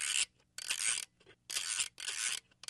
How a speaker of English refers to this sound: She still has that camera and loves the sound of the film being manually advanced. It was kind of a subdued crescendoing of a ratchety, clicking noise.